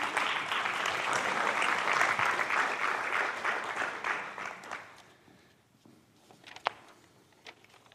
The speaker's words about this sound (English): There you go. Give him a clap.